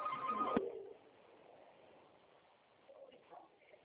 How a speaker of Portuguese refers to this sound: Pronto, tinha um telefone tocando na minha orelha aqui, eu tava ficando doido.